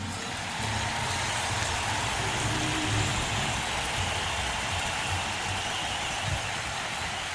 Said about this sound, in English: A special one for our production crew, the men and women who is assembling the stage twice a night. Big round of applause, huh?